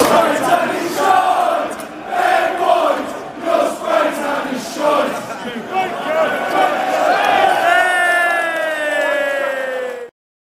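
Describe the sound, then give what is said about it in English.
A large crowd of Wolves football fans in the South Bank stand sings a chant aimed at Ben White, voices loud and rhythmic, swelling into a sustained drawn-out note near the end before cutting off abruptly. “Should we talk about the other song that got sang by the South Bank last night, which I found rather funny?”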